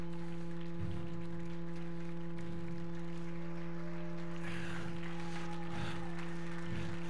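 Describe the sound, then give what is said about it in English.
An audience claps their hands in loose, rhythmic bursts roughly once a second, rejoicing and praising the Lord, over a steady droning hum of sustained tones. “Clap your hands, oh!”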